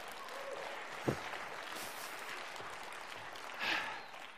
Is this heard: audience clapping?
yes